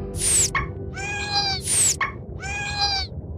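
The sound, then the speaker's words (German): Calls of two dolphins, named Zisch and Klick, repeat twice in a pattern: a sharp, buzzy burst with a high whistle sliding downward, then a longer warbling, harmonic squeal. No talking, just the calls over a low background hum. “Zisch und Klick. Ha, so nenne ich euch beide.”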